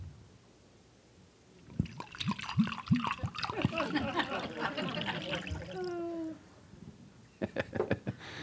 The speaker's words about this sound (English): Ready? You see the shape that it's taken? Now I'm going to pour it into this one.